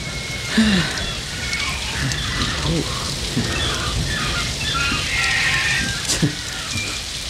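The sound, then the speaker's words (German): Heavy tropical rain pours down in a dense, continuous roar, loud, heard from inside a car, with a steady hiss of drops drumming on a surface for the whole stretch. “Ein tropischer Regen ist zwar heftig, dauert aber meistens nicht sehr lange.”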